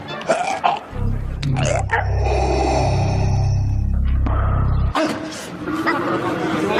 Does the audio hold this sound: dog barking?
yes